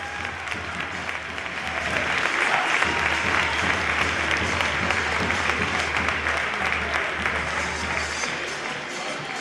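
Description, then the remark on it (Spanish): A large football stadium crowd, all on their feet, applauds the team's captain Nacho Fernández in a dense, continuous wash of clapping. It holds steady and loud for the whole stretch, swelling slightly after the opening seconds, with no voices standing out. “Todo el público en pie aplaudiendo al que en el día de ayer era el capitán del equipo.”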